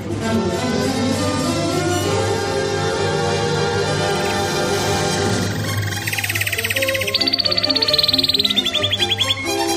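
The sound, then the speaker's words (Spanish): A radio segment jingle for 'Información confidencial': a musical sting with sustained tones gives way to a bright, rapid bird trill, high-pitched chirps pulsing quickly in bursts over the music, loud. “El trino del conciso es información confidencial.”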